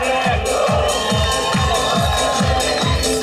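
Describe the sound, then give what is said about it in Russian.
A lively crowd of wedding guests raises their hands and claps and cheers loudly for the newlyweds over music with a steady, thumping beat, their noise continuous. “Поднимайте руки, давайте хлопать!”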